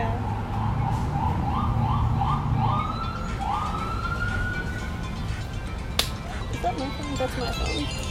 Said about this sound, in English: That's my phone. I'll pause it. No, we're good. That was an alarm.